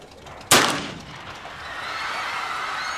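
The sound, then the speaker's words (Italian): A single loud gunshot, fired from very close range at Mussolini in Piazza del Campidoglio, Rome, on a sunny day and striking him in the face, cracks out with a sharp report, then fades into a lingering echo and faint background noise. No one speaks. “Quando improvvisamente uno sparo da molto vicino viene esploso contro di lui e lo colpisce al volto.”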